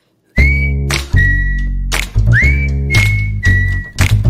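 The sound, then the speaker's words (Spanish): A short, bright whistled radio jingle on Onda Cero, sustained notes with quick upward slides over a steady low rhythmic backing with thumping beats, loud, with no talking. “Ya saben que estos silbiditos vienen aparejados con una preguntita.”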